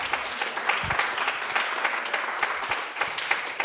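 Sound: audience applause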